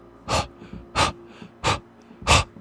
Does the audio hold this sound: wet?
yes